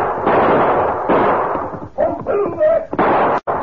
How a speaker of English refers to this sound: Snatching his gun, he turned in the saddle and fired.